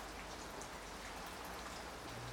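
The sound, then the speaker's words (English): Steady rain falls in a dense, hissing patter, an even wash of droplets that holds at a constant level throughout with no voices. “The weather is getting worse.”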